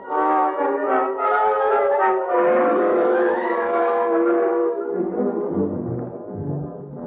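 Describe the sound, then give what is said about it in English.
A loud siren wails steadily for about seven seconds, its rich, buzzing tone gliding slowly up and then sagging lower toward the end, with no voices over it. “that siren means they're searching for me.”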